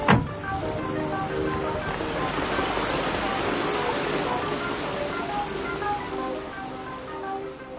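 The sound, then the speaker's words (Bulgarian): A stormy night with heavy rain and gusting wind, a dense, steady roar that holds at an even loudness throughout after a brief sharp burst at the very start. “Не стойте на дъжда. Отвратителна нощ.”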